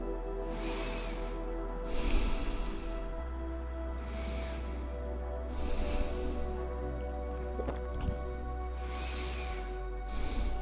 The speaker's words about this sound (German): Und du nimmst hier mit mir erstmal ein paar bewusste Atemzüge. Nimmst das wahr, was du wahrnimmst.